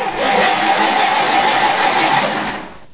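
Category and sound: vehicle, car engine revving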